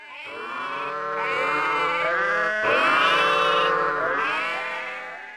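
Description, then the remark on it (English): Fourteen sheep bleating loudly, a string of wavering, overlapping baas that run together without pause for about five seconds, with no voices. “There are 14 sheep.”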